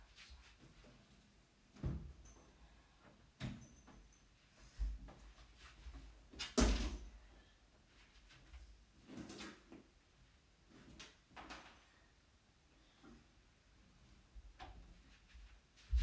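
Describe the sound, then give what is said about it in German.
A door is shut with one sharp, loud thud midway, framed by softer bumps, clicks and shuffling movement before and after. No one speaks. “Ich mache mal kurz die Tür zu, dass ich einen Podcast aufnehmen kann.”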